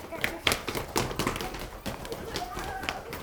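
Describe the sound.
Quick, rhythmic footsteps thump up a staircase, a steady run of hollow taps about four per second, with faint voices murmuring underneath.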